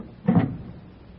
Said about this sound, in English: at that moment, a woman walks down the street, up the steps to number 644, takes out a latch key, opens the door, and walks into the apartment as the clock strikes 8.